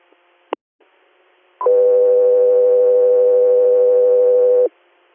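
A radio dispatch alert tone for Echo 3, Air: after a brief click, a loud, steady, single-pitched tone sounds for about three seconds, then cuts off abruptly. No one speaks.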